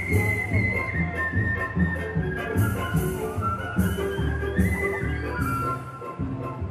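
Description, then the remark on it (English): A Vietnamese musician on a street corner whistles a steady, high melody over a rhythmic backing of music with a regular low pulse, fairly loud, continuing without pause and with no one talking. “Instead, America comes calling, sometimes in a visitor like me, sometimes in a Vietnamese musician whistling on a street corner.”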